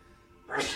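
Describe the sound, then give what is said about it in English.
A single abrupt sneeze bursts out after a moment of near silence, loud and breathy, cutting off quickly with no talking around it. “God bless you.”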